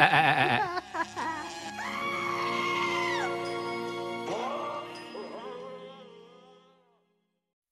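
A goat bleats loudly, a quavering, wavering cry that stretches into a long drawn-out call before trailing off into silence. No one speaks.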